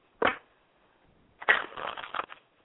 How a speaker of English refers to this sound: I'm sitting here shuffling cards.